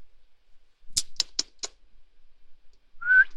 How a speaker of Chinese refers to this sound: 你吹什么口哨？真是流氓。